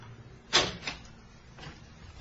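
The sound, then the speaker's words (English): A door at the end of a passageway into a derelict, boarded-up building is pushed open with a sharp scraping knock followed by a softer second scrape, then a faint rustle later, all fairly quiet. “Oh, here's a door.”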